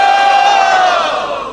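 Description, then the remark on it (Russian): A crowd with both hands raised shouts the chant "Hari Bol" together in one loud, sustained burst of many voices, holding steady before tapering slightly at the end. “Поэтому я хотел бы сказать, вернее, попросить всех тех, у кого есть такое понимание, поднять две руки вверх и крикнуть «Хари Бол».”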